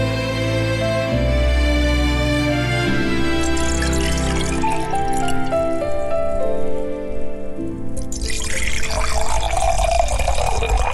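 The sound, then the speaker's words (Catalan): Water pours steadily into a glass, served to guests in a dining room by a hand that trembles slightly. Its gurgling tone climbs as the vessel fills, with a brighter, splashier trickle in the last few seconds. No one speaks. “Els fa seure al menjador ple de fotografies antigues i els serveix aigua amb una mà que tremola lleugerament.”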